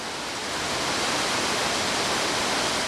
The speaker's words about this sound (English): Water rushes through a filtering process at the Racine Water Utility. Racine wants to send 7 million gallons a day of lake water to the Foxconn property.